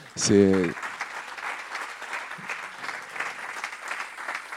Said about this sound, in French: Merci un million de fois à tous ceux qui l'ont rendu possible, tous ceux qui servent, tous ceux qui nous ont accueillis. Je pense qu'on peut les applaudir aussi.